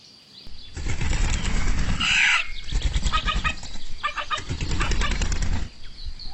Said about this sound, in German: Etwas flatterte über den Zaun. Ein Hahn.